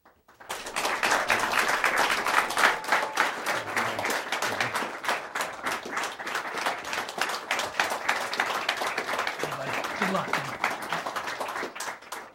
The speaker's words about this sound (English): But first, I'd like to thank our in-studio audience of Illinois voters who are with us this evening. Our audience has agreed to refrain from applause or audible reactions during the debate, except for right now when we welcome our candidates.